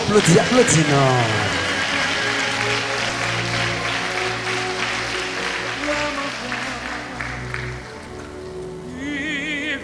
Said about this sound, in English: Your clapping is so weak.